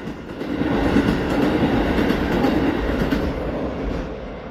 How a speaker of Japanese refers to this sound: ちょうど今、踏切を、電車が走り抜けました。今走り抜けています。